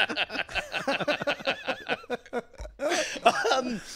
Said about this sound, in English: So you, I hope you'll forgive me that I keep clearing my throat during the defense.